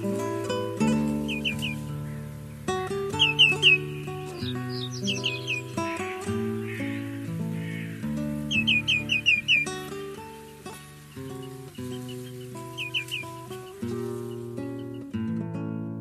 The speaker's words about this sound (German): Das war der Grünschenkel.